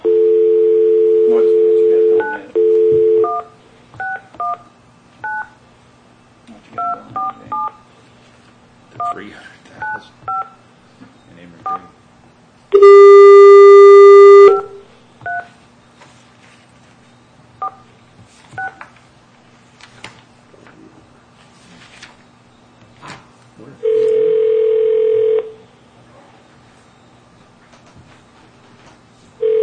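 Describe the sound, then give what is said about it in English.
A steady dial tone gives way to a quick series of touch-tone beeps as a number is dialed, then a loud buzzy ring and a later ringback tone, with faint background murmurs. “All righty, I'll make a phone call.”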